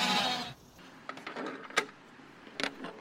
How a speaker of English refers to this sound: All right, sheep, you guys ready to come out? Morning, sheep. Ba sheep, ba sheep.